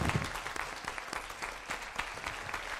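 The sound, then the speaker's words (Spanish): Steady applause from a crowd for team members, dense clapping filling the whole stretch with a few sharper claps standing out, moderately loud. “Y les damos un aplauso si sois los sí, del equipo.”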